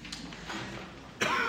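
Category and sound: human body sound, cough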